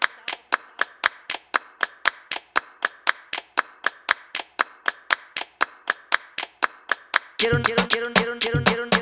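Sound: applause sound effect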